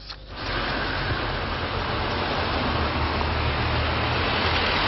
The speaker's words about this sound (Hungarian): Kilosban parkoló autók és óriási átmenő forgalom. Jelenleg ez jellemzi a belvárosi közlekedést.